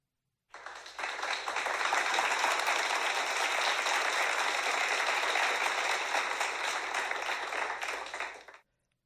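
Steady applause from a crowd, a dense wash of many hands clapping that starts abruptly, holds at an even level for about eight seconds, then cuts off sharply.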